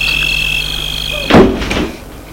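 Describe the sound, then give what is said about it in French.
A wooden front door of a house, entered by way of a glass-roofed porch at night under a full moon, swings shut with a single solid thud and a short rattling tail, over a steady high-pitched insect trill that fades after the impact. “Monte un perron en verrière et elle le fait rentrer dans sa maison par une porte de bois.”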